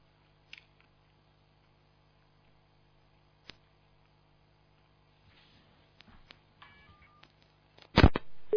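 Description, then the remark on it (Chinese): A few sharp clicks, then a cluster of handset clatter and brief electronic beeps like phone tones as a telephone call to a radio call-in programme is hung up, ending in a louder burst of line noise. There is no talking. “电话要挂掉。这不挂掉，人家就打不进来了。”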